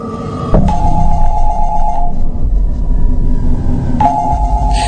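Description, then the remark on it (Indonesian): A telephone rings in two electronic bursts, one around the first second and another near the end, over a steady low rumble with no one speaking. “Telepon di ruanganku lagi-lagi berbunyi.”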